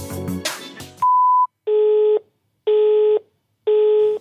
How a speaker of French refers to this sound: pas disponible, vous pourrez envoyer un message après le bip sonore.